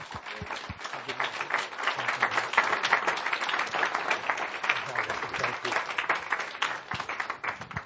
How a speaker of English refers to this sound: Would you guys come on up for a round of applause?